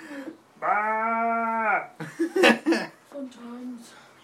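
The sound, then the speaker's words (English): A person does a loud, sustained goat bleat in a wavering nasal voice, followed by bursts of laughter and breathy chuckling. “Then, of course, no farm's complete without a goat.”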